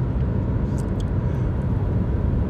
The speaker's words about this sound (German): Und ja, die Atmosphäre vom Autofahren ist auch noch mit drin bei den Aufnahmen.